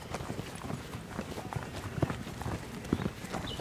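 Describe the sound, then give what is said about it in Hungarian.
Many hooves of a herd of cattle, including small calves, clatter irregularly on a hard road as a herdsman drives them aside to clear the way, a dense overlapping shuffle of animals walking past, with faint background murmur. “Talán lehet hallani. A gulyás már tereli őket, hogy elférjünk az úton.”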